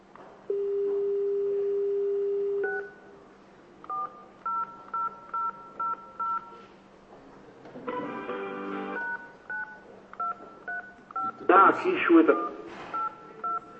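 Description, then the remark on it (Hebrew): A steady telephone dial tone as the phone is dialed again, giving way to rapid runs of short, evenly spaced keypad beeps, broken twice by brief bursts of a voice or line noise before more dialing tones follow. “אנחנו נעשה עוד פעם את הטלפון כדי שייכנס עוד פעם לחוד.”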